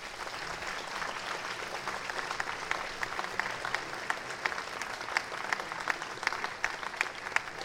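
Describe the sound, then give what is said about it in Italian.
An audience applauds steadily, a dense wash of many hands clapping at an even, moderate loudness for several seconds, with occasional sharper individual claps standing out. “Meritano un applauso.”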